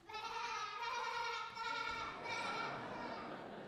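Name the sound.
sheep bleating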